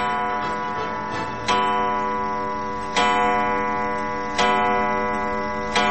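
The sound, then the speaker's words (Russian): An antique clock made in 1885, an Ovchinnikov family heirloom brought from Voronezh, ticks slowly and steadily, each sharp tick about a second and a half apart over a sustained, ringing resonant tone. Fairly loud, with no voices. “Часы, они 1885 года рождения. Это фамильная драгоценность Овчинниковых.”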